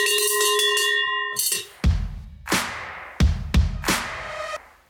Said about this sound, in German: Ohne Geläute konnte die Folge natürlich nicht zu Ende gehen. Ich habe was gelernt. Es ist eine Schelle und keine Glocke.